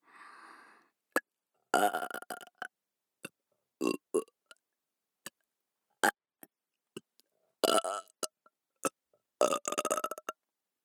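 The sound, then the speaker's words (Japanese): A series of loud, drawn-out burps, separated by pauses and sharp clicking sounds. No one speaks. The longer belches have a rough, croaky quality. “ゲップで興奮する変態、新手な魔族、勘違いチンポ、虫キラ。”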